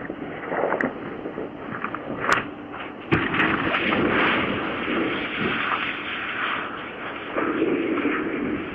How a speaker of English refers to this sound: Watch this. This is that plane. This is the crash, showing the crash of that plane.